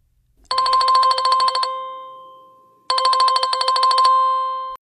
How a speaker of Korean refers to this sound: 하여튼 조금만 안 보이면 곧바로 전화 온다니까요.